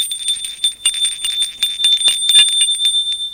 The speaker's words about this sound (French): Il habitait dans le 7e arrondissement de Lyon, route de Vienne, dans une résidence neuve. Sonnait à sa porte.